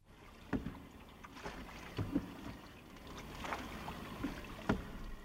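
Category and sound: vehicle, boat moving through water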